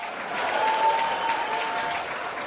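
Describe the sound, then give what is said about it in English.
A woman claps while feigning laughter: a dense, steady patter that sounds like a group applauding together, holding an even moderate loudness for a couple of seconds with no talking over it. “She feigns laughter and claps.”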